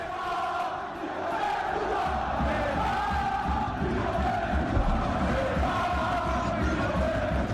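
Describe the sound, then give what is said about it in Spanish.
A massive crowd of PSG fans at the Parc des Princes in Paris chants in unison in Spanish about a Brazilian footballer before a French league match against Nîmes, a dense roar of many voices rising and falling in a steady rhythmic pattern, loud and continuous throughout. “ayer en el Parque de los Príncipes, antes del partido contra el Nimes, con el que su equipo, el PSG, abría la Liga Francesa, la afición parisina se expresó muy claramente con respecto al futbolista brasileño y lo hizo con gritos en castellano.”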